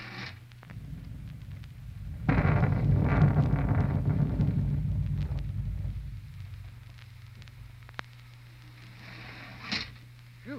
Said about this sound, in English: Boy, some rain, huh? It's been going steady for 3 hours.